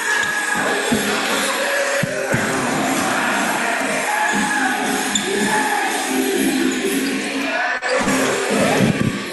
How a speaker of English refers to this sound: A nice crowd here at the Owl's Nest tonight.